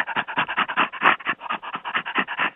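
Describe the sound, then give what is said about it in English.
Rapid, rhythmic breathy panting from a great ape laughing, about six gruff huffs per second, fairly loud, with no talking. “Again, the great apes, the gorillas, orangutans, and chimpanzees all perform a kind of laughter that sounds quite like our own, And I'll give you an example of it.”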